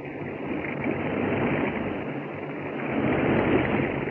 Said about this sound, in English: Jerry and Joan are now badly frightened as they hear the rushing of water outside the elevator shaft.